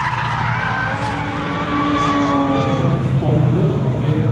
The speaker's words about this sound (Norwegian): Her kan du komme og stille ut bilen din, eller du kan komme og kjøre på bane, eller du kan komme og titte på biler som kjører på bane.